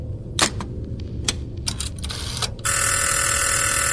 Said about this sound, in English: The phone begins to ring on your end, and the figure begins to move towards the phone and doesn't really reach to answer it, but more like collides with it.